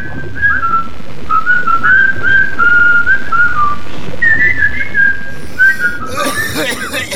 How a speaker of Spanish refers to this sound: Mientras, el batiscafo subía hacia la superficie del mar, con Gómez y Smoke silbando triunfalmente.